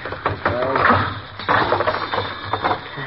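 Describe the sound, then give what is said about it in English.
Crisp mechanical clicking from the spring mechanism of an ignition lock being tried out, a series of irregular ratchet-like snaps over a few seconds, with a faint murmur of voice in the background. “it'll work okay when I put the spring back into it. I was trying it out on this ignition lock”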